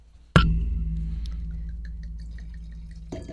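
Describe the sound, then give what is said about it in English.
Liquid pours into glasses for a tasting, with a sudden splash at the start, then a steady gurgling stream that slowly softens, with small droplet plinks over it. No one talks. “And while we're pouring, I should just say”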